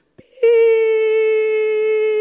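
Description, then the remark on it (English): A TV test pattern tone, heard before broadcasting began at 7 o'clock in the morning: after a short click, a loud, steady mid-pitched electronic beep starts and holds unbroken with a buzzy, overtone-rich timbre, alone with no talking. “And used to switch on the TV at 5 to 7 to greet it with this beautiful sound of anticipation.”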